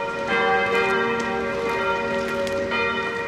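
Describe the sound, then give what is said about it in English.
Church bells, rung by a priest, ring out in a rich, overlapping peal, their sustained tones layering and shimmering with fresh strikes every second or so, loud and resonant with no voices. “In the film, they want the priest to help persuade Luxembourg's bishop to end opposition to the occupation, which he marks each day by ringing the church bells.”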